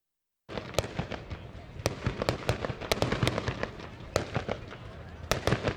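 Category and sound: sound effect, fireworks exploding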